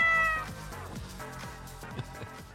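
A cat meows loudly, a long drawn-out cry at the start followed by several shorter, wavering meows. No one speaks.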